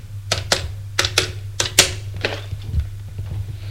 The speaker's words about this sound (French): Prend son téléphone et fait un numéro.